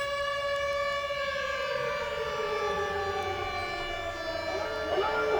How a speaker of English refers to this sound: When I heard the sirens and the air whine, I sprang to my feet and stood there, nude, on tiptoe, with my arms outstretched, and then it came, like the universe being unzipped.